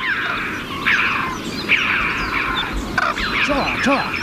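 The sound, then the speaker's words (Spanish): Choughs call in sharp, repeated high chirps in the mountain passes of the Pyrenees, over a dense, steady chorus of distant cranes, with a few clear rising harmonic calls near the end. “Esto es un mix, por ejemplo, cruzando los Pirineos, los collados pirenaicos, donde gritan las choas, pero de fondo a lo lejos las grullas.”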